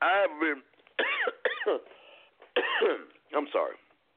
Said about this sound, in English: Now, excuse me, guys. I'm a little under the weather, so I don't mean to cough like that.